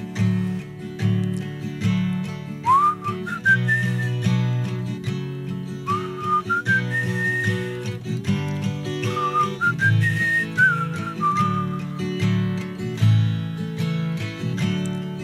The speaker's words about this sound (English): I don't whistle very well.